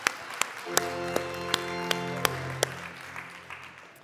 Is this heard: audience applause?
yes